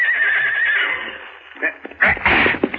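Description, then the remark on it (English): A horse gives a loud, quavering whinny that trails off, followed by snorting and restless, shuffling sounds, as a mounted escort prepares to move out behind a wagon carrying prisoners. “I ride my horse and stay behind the wagon.”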